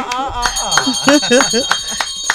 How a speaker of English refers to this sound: That's a good place to ring the bell.